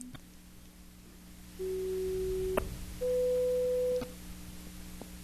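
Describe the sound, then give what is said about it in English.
In an audio demonstration, two steady pure test tones at the same level, each lasting about a second, play one after the other: a lower pitch first, then a slightly higher one, over a faint low hum. “These are all the same level of tones.”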